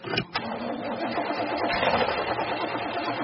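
A car engine cranks steadily without catching, a rapid, rhythmic mechanical churning that holds at an even loudness for a few seconds. No one speaks.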